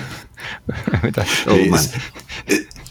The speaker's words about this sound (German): Es atmet wieder aus. Das schneiden wir nachher raus. Nein, bleibt alles drin.